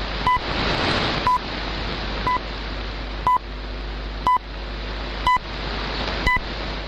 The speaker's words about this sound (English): First, let's take a listen to the PL600 from Texan. The frequency is 15 megahertz. Yes, you know 15 megahertz, the time ticking station. Well, this is how it sounds from the PL600.